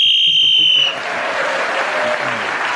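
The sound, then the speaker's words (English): A referee's whistle gives one sharp, steady, high-pitched blast lasting under a second, ending the round as Paul Merton's turn on getting a tan runs to the whistle, then cuts off into a burst of audience applause that fills the rest. “So Paul Merton, getting a tan, kept him going to the whistle, gained an extra point for doing so”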